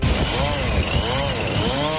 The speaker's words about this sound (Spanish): Es el sonido este de la sierra despiezando una enorme ballena aparecida en la costa de A Coruña este martes en el puerto de Oza. Es la más grande aparecida en nuestras costas